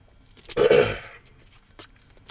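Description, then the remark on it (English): Someone in Manhattan, Kansas takes a swig of water: a single loud, breathy gulp with a throaty exhale, followed by near silence and a sharp click at the very end. No one speaks. “Let me get a swig of water here real quick before we wrap up with the next two drivers here on this podcast.”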